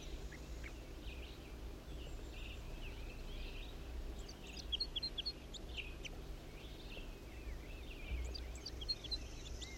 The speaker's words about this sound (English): Wild bird. wild male bird that was just singing.